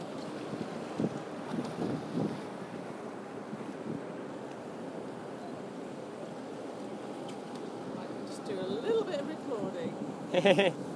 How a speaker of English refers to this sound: Here we go, we're leaving Venice on a water taxi.